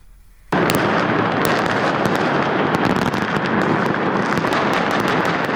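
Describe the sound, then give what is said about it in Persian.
Fireworks burst over Umayyad Square in central Damascus at the moment of the 2025 New Year, in a dense, continuous barrage after a brief quiet moment, with sharp crackling pops layered over a loud, rumbling roar that stays steady to the end. “آتش‌بازی در میدان اموی در مرکز دمشق در لحظه تحویل سال 2025، شادی سوری‌ها در اولین تحویل سال نو پس از سقوط رژیم اسد نمونه‌ای از امیدواری‌هایی بود که مردم سراسر جهان برای سال جدید داشتند.”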